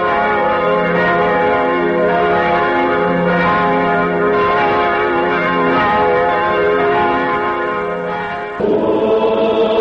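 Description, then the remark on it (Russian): Church bells in Old Vilnius, Lithuania, ring loudly and continuously, their overlapping rich tones forming a dense, sustained peal that shifts slightly near the end as a new bell strikes in. “Из голосов этих храмов, их колоколов, разноязыка и речи, молитв и хоров.”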